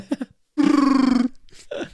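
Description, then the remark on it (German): A voice imitates a Wookiee growl: one loud, rough, gravelly cry held for under a second, with short voiced grunts just before and after. “So Wookie-Sounds machen.”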